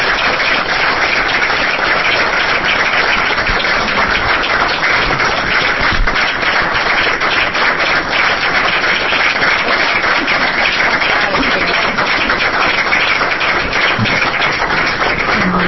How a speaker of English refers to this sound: So I'd like to give a big round of applause for this.